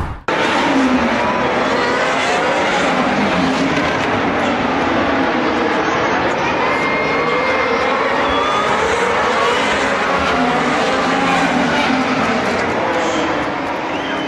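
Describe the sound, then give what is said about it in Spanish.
Loud, continuous roar of single-seater race car engines, with high revving whines rising and falling as the cars pass by, sustained throughout without a break. “Estamos aquí en Fórmula Autotrend y esas imágenes y esos sonidos que se escuchan pues son los de los motores de estos monoplazas que el día de ayer tuvieron la quali y antier las prácticas”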